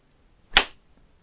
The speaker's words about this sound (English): And when I do whip you, it feels so fucking good. Feel it!